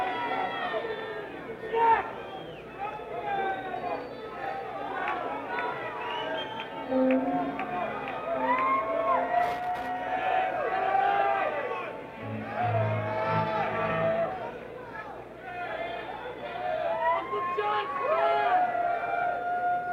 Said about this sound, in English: Might be able to hear some of the shouts for requests at the encore. I mean, there's just so many different things that they could do.